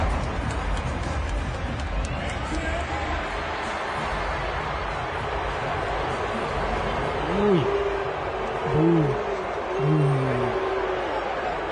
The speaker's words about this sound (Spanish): Abucheos.